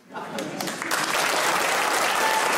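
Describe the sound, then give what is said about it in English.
An audience bursts into applause, starting with a few scattered claps and quickly swelling into a loud, steady wash of clapping that keeps building and never lets up. “Stop clapping!”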